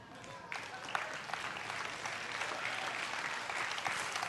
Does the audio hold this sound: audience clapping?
yes